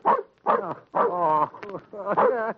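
dog barking

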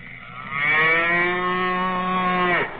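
cow mooing

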